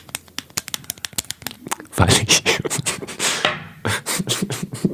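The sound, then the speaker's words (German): Pen scratching across paper in quick, irregular strokes as someone writes a short note, briefly growing denser and rougher in the middle before settling back into short separate marks, with no talking. “Und ich mache mir noch eine kurze Notiz,”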